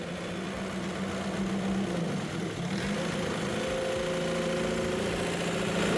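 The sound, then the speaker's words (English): An engine, with its oil circulation being checked, turns over and catches, then settles into a steady idle with a constant low drone and rattling vibration. No one speaks. “Now let's start the engine.”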